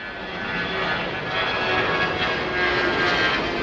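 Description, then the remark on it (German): A loud, steady airplane engine roar at Zurich Airport, heard from the visitor terrace, a broad rushing drone with faint whining tones that swells slightly as the aircraft passes, with no talking. “Und er hat es an einem ganz speziellen Ort gemacht, auf der Besucherterrasse vom Flughafen Zürich, wo die Menschen voller Fernweh diesen Flugzeug zuschauen.”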